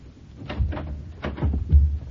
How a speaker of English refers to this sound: Not locked. Nothing to tempt your average burglar, anyway. The filing cabinets and the desk drawers slid open with providential ease.